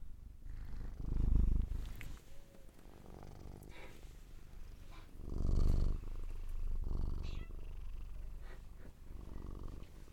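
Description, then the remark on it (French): A 16-year-old cat at an animal shelter purrs in a steady low rumble, swelling into two louder, breathy surges with a soft, continuous drone in between. “Des beaux ronronnements.”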